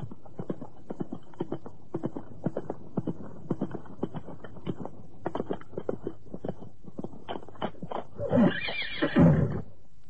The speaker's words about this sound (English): I am going. Just as fast as my horse can lay hoofs to the ground.